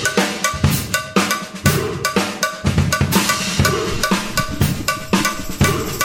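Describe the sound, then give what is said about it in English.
Loud, driving percussion music from a track played off Spotify, led by a bright, metallic cowbell clanking in a steady, repeating rhythm over banging, clattering hits, with no voices. “It sounds like you're playing some of the garbage cans. I like this. Cowbell vibe.”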